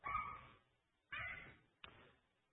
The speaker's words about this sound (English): The lion growls.